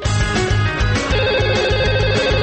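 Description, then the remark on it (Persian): A loud, melodic telephone ringtone plays with a steady pulsing beat and bright repeating tones as listeners' phone calls come in to a radio programme, no one speaking. “برنامه امشب را با تماس‌های تلفنی شما با مشکلگیر برنامه و پخش نظرات کارشناس مربوطه ادامه می‌دهیم.”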